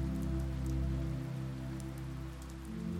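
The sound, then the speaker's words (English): Gentle, steady rain falls outside a window in a continuous soft patter, droplets hitting the ground at an even level with a low hum beneath and no wind or voices. “The first thing Lily hears when she opens her eyes is the sound of gentle rain coming down outside her window.”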